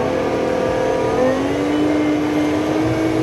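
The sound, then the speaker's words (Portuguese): A car engine hums steadily at low speed while driving an off-road course over mud and diagonal wooden-log bumps, its pitch rising as it works harder, loud throughout with constant rumbling underneath and no talking. “Então aqui tem lama, tem toras de madeira fazendo lombadas meio na diagonal aqui para o carro passar, e a gente vai conseguir sentir como ele se comporta.”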